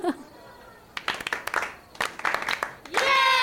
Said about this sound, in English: That was so nice. Clap for yourselves.